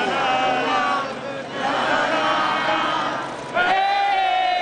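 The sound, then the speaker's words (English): A crowd of thousands cheers and chants in unison at the State House in Columbia, South Carolina, as the Confederate flag is taken down, a loud, dense wall of voices with rhythmic swells, a brief dip in volume, then a surge of sustained shouting. “In Columbia, South Carolina, today a jubilant crowd of thousands chanting and cheering at the State House as the Confederate flag was taken down.”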